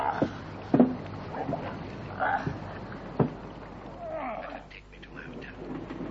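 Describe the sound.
A wooden boat creaks and groans on the water, with a couple of sharp knocks against the hull and a steady wash of water beneath, while indistinct voices murmur faintly.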